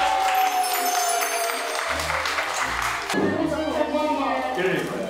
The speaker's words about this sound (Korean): 케이크 한번 불어주세요. 아우. 와. 어, 오래오래 건강하게. 박수.